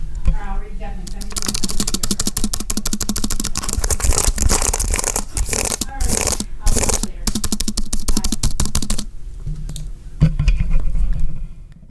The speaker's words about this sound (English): a bad, not fun, boring, stupid, horrible, terrible, just repulsive experience to type on an Apple keyboard. Now, the old Apple keyboard for the Macs, previously from like 2017, I think, had a more clicky keyboard, so I'll give you the thing for that.